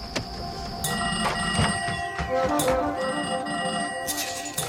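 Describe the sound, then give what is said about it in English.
Several old telephone bells ring at once in overlapping bursts as a young switchboard operator in a small New Mexico town is suddenly overwhelmed with calls, a busy clanging jangle piling up, steady and fairly loud throughout with a low background rumble. “And in this scene we're about to play, she's suddenly overwhelmed with phone calls.”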